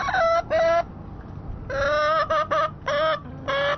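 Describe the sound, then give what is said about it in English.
Three backyard chickens at a townhouse in Washington, D.C. cluck loudly in a string of short, irregular bursts separated by brief quiet gaps, with a faint background hiss and no one talking. “But as VOA's Steve Barragona discovered, not everyone in Washington thinks chickens will make good neighbors.”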